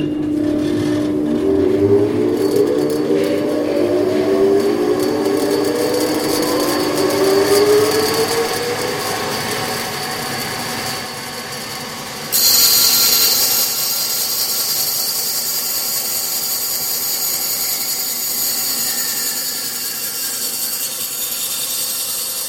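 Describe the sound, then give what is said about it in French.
A band saw runs loudly and steadily, its blade whining as it cuts pieces of wood being prepared for making furniture, with the pitch shifting under load and a sharper, brighter screech partway through. No one speaks. “Donc on est devant une scie à ruban et en fin de compte, ça nous permet de faire des découpes pour préparer les pièces de bois en vue de fabriquer, par exemple, un meuble.”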